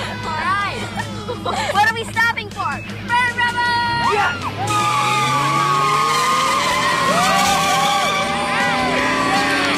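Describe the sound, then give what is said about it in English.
A car drives fast, its engine roaring and rising in pitch with tires squealing, while excited voices whoop and shout over it in the first few seconds, as Beavis and Butthead give a ride home in their car. “For your information, those guys gave us a ride home in the coolest car.”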